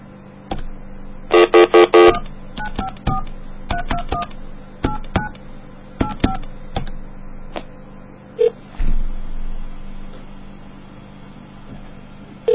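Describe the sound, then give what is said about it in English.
Touch-tone dialing of a call to the Haitian swap meet, where it is 10:30 at night: a steady tone burst, then a quick series of short beeping keypad tones at varying pitches, followed by a quieter stretch of line hum with a few clicks. “call the Haitian swap meet on a weekend day in the morning”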